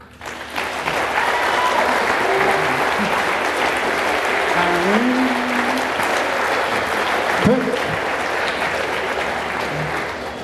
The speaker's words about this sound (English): Your applause, sorry.